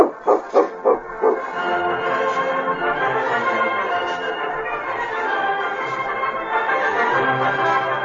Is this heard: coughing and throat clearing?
no